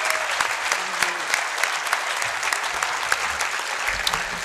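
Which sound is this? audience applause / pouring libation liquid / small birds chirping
audience applause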